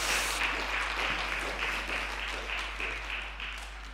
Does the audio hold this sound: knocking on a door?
no